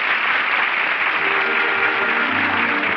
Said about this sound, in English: The curtain is down on a brilliant opening night performance in the little theater off Times Square. It's part of the delay and the all-star cast in front of the footlights acknowledging the applause.